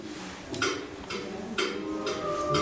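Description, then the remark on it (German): A steady, regular ticking at about two beats per second, each tick a crisp, bright click, continuing evenly over a soft sustained background hum. “Wir haben hier eine Uhr.”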